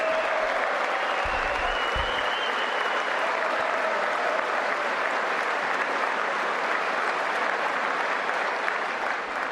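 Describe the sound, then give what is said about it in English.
Sustained applause from a large audience in a legislative chamber after a pledge never to let socialism destroy American health care, a dense, steady wash of clapping that holds at an even loudness for the whole stretch with no voices rising above it. “Is Pelosi going to applaud for that like she did for Guaido?”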